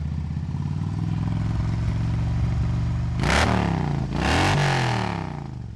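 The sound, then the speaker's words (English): A motorcycle, up in the woods, idles with a steady low rumble, then revs up twice in quick bursts, the pitch rising sharply each time before falling back toward idle. “To me, that's not an obnoxious level of sound at an idle.”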